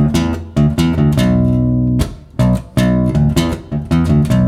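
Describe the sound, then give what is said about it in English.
An isolated bass line plays alone, a series of deep plucked notes with bright attacks, some held and some short, moving in a steady groove with no voices or drums. “And before we do that, however, I would like to just hear the bass line of that song, if it's possible.”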